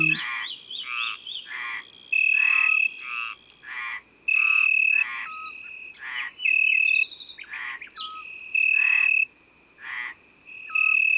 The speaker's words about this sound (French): C'est un petit grillon brun-jaune qu'on ne voit pas souvent, mais on l'entend tous les soirs, et son chant est idéal pour s'endormir.